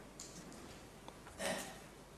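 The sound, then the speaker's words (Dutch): A single small, soft, brief cough during a provincial council meeting, otherwise quiet with low background hiss and no one talking. “Was dat een verzoek om het woord of gewoon een kuchje om even...”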